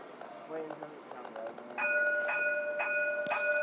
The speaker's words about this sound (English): I love the fact they still have a bell sound. It sounds a bit artificial